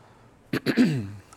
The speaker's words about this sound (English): Excuse me for the cough. Allergies for some reason hit me late this year.